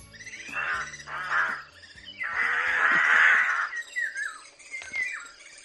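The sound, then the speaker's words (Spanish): A rook calls with a series of harsh, raspy caws, some drawn out and overlapping, fairly loud, with no one speaking. “Pues parece un pájaro. Y hablando de refranes, solo se me viene a la cabeza que sea el grajo.”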